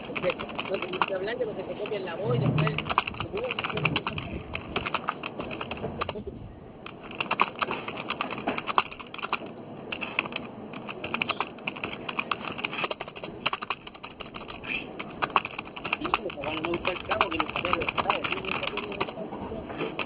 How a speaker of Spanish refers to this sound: No, si suena una... los teclados.